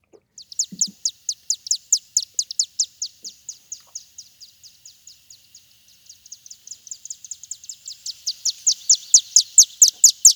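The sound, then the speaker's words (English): A rapid, continuous series of high, thin chittering chirps from chimney swifts, dozens of quick notes in steady rhythm, fading slightly midway then swelling louder toward the end, with no voices. “So I'm going to play another one here. This is the chimney swift.”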